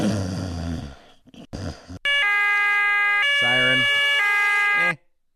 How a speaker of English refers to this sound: A European siren, too.